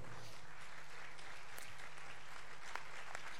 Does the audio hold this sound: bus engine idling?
no